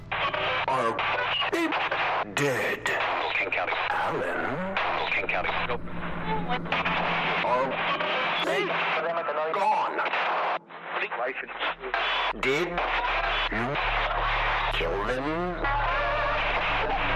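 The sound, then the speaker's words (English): A radio's dials shift hastily between stations, jumping abruptly from one burst of garbled, overlapping voices and music to the next, with sweeping whistles and static filling the gaps throughout; its volume dial creeps up, making the voice louder. “Its dials shifted hastily between radio stations, finding all of the correct words to say, like an amalgamation of souls talking all at once.”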